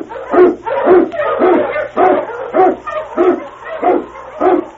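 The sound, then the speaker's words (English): King, an Eskimo sled lead dog in the Yukon, barks about eight times in a steady rhythm, each bark loud and howl-tinged, with no one speaking over it. “King, the swiftest, strongest of Eskimo lead dogs, blazes the trail through storm and snow for Sergeant Preston as he meets the challenge of the Yukon.”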